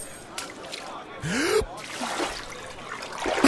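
A brief watery splash as keys drop into a little tub of water, accompanied by a sharp gasp-like breath and a few faint trickling sounds afterward.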